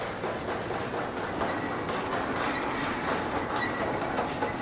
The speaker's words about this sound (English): Oh, and there's trains too.